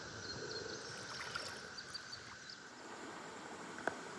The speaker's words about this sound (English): All right, so typically when I'm fishing a river like this, it's got swift water.